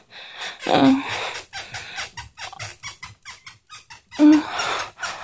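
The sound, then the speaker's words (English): A bed creaks, with two sharp squeals standing out amid a steady run of rhythmic rustling and soft thumps from movement on the mattress. “Oh, baby, can you hear that bed creaking?”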